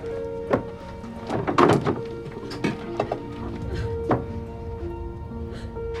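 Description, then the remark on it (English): Blood-stained glass pickle jars clunk and clatter as a man in overalls, mask and rubber gloves picks them up and drops them into a bin inside a convenience store, a few irregular hard knocks spread over several seconds against a steady low hum, with no talking. “Inside, in overalls, mask, and rubber gloves, Tom picks up blood-stained pickle jars and puts them in a bin.”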